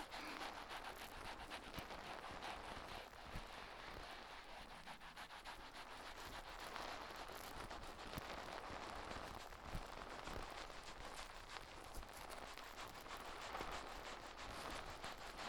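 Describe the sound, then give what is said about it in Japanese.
Dense, steady crackling of tiny foam bubbles popping, a continuous fizzing texture of countless faint, rapid pops with no talking. “パチパチって小さい泡が弾ける音。”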